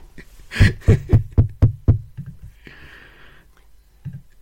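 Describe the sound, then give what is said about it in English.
A door knocker shaped like two boiled eggs strikes six times in a quick, steady rhythm, loud, then a brief soft hiss follows and the scene goes quiet apart from a faint thud. “And straight away, I can see that the door knocker is in the form of two lovely boiled eggs.”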